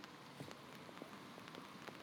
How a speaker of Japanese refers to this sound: 寒くない？冬の日の雨、